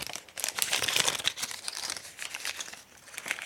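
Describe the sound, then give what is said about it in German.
Continuous crinkling and crackling of a stiff, colourfully printed pouch of metal foil laminated with plastic being cut open with scissors, dense bursts of bright rustle with a few sharper snips, no talking. “Aufreißen kann ich das Ding nicht. Da muss ich mit der Schere ran und dann sehe ich auch warum.”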